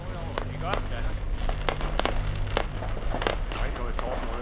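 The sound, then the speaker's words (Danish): A burst of sharp explosions from a factory fully on fire, filmed with a video camera from a resident's garden, eight or so sudden cracks and pops arriving irregularly, some in quick pairs, over a steady low rumbling hum with faint voices murmuring underneath. “Der er nu fuld ild i fabrikken. Flammerne tiltager, og eksplosionerne bliver hyppigere.”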